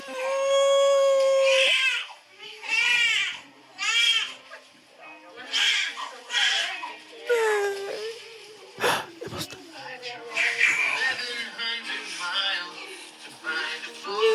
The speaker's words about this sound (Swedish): men den är jättefin och man hör bebisen och bara skrika.